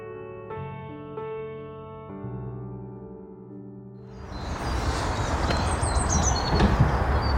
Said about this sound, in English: The sun is shining and the birds are tweeting.